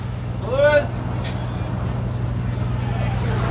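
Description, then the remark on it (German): A tour boat's engine drones low and steady while high waves wash and splash around it as the ship, carrying tourists, pushes off from the shore in the bay of Manhattan, New York, heading toward the Statue of Liberty and Ellis Island; a short rising cry cuts through briefly near the start. “Hohe Wellen und tuckernder Motor in der Bucht von Manhattan. Ein Schiff mit Touristen stößt vom Ufer ab Richtung Freiheitsstatue und Ellis Island.”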